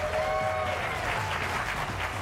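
A crowd applauding steadily for a couple of seconds, a dense, even wash of clapping at constant loudness, with a brief high tonal cheer or whistle riding over it at the start.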